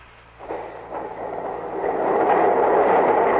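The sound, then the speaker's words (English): Heavy doors grind mechanically open, a dense rumbling roar that swells steadily louder over a few seconds above a low droning hum, with no voices. “The doors are opening.”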